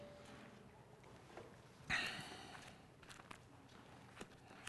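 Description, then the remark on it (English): Bible pages being turned to Luke 17: one soft papery swish of moderate loudness midway, followed by a few faint rustles and light taps. Nobody speaks. “I still hear some pages turning, so I'll give a pause for a minute.”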